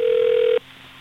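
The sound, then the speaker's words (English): A single burst of a phone line ringing through, a steady electronic tone that holds for about half a second and then cuts off abruptly, leaving faint line hiss. No one speaks. “We're calling Kid?”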